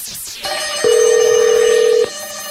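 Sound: telephone ringing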